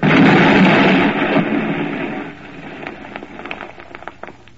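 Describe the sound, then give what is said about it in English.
A loud, rumbling explosion roars right at the start, then fades into scattered crackles and falling debris over a few seconds. There is no speech. “Until in 1846, the creeping fuse touches off the explosion.”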